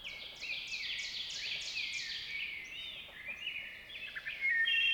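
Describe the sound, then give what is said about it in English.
In a forest, an ovenbird sounds off loudly from nearby with a chant of repeated, rising two-note phrases, while a wood thrush sings fluting phrases from a treetop overhead. No voices are present, just forest birdsong. “A wood thrush flutes from a treetop overhead, and an ovenbird sounds off loudly from nearby.”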